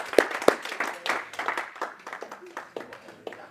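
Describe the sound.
An audience claps for a few seconds as a man from the audience comes up to the front, opening with two sharp, loud claps before settling into a steady patter of many overlapping hands. Voices murmur underneath.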